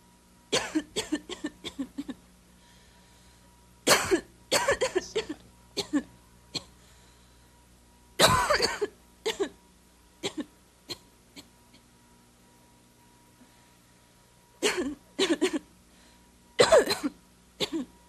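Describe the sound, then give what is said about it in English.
A person coughs repeatedly in several separate bursts, some quick and clustered, others single harsh hacks, moderately loud, with quiet pauses between fits. “Did you hear that person coughing?”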